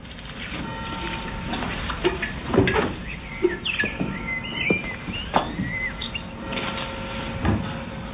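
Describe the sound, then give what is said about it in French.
Birds chirp in short, scattered bursts over a steady background of ambient noise, with a few louder thumps and rustles mixed in. “On a essayé de vous faire un petit montage de ces trois villes, Nazareth, Paris, New York, à travers, je ne sais pas si vous allez les reconnaître, des oiseaux, la police montée, le métro, feu d'artifice, une ambulance, l'aéroport.”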